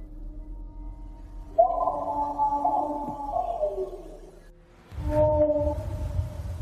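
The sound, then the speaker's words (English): Eerie, sustained howling tones waver and hold around a mid pitch, fading out before a second rising howl returns with a low rumbling background beneath it, a rough recording made on a cell phone of strange howling noises heard throughout Alert Bay. “It's an eerie recording captured on a cell phone of something that's making strange howling noises heard throughout Alert Bay.”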